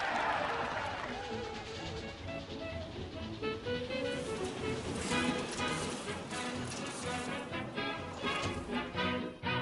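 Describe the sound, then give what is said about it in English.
A dense, continuous roar of a large outdoor crowd cheering and clapping at a horse match race on a cold, windy late October night, loud and steady throughout with surging peaks, no single voice standing out. “And gentlemen, I am staring at a swarm of humanity, a sea of hungry faces demanding the match of a lifetime.”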